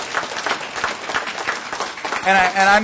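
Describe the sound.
A crowd at the Iowa Annual Conference applauds its communications department, which received 8 awards from United Methodist Communications, with a dense, steady patter of clapping for a couple of seconds, then a voice rises over the fading applause.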